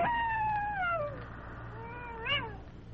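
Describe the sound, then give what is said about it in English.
A wolf howls in the distance: a mournful, drawn-out wail that slides downward, followed by a fainter second cry that rises and wavers, over a steady low rumble. No one speaks. “Nothing broke the deep silence except his heavy breathing, and in the distance, the mournful cry of a wolf.”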